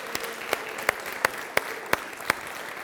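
A round of applause from a group, a steady wash of clapping with a few sharper claps standing out in an even rhythm, about three per second. No one speaks.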